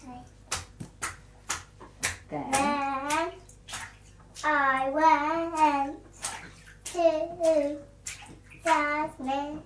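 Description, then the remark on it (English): Water splashes sharply and repeatedly in a bathtub in quick irregular slaps, while a young child's voice babbles and vocalizes over the splashing. “Then, careful, you're splashing my river.”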